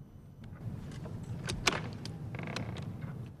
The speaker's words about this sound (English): Now Catherine is at the door of the house. She reaches for the knob and opens the door.